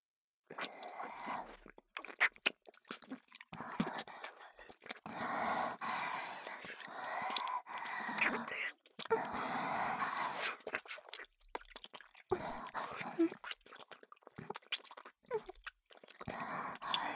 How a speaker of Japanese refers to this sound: 次は、女性の耳舐めです。